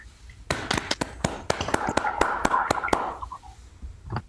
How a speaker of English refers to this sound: So let's all unmute to give her a round of applause.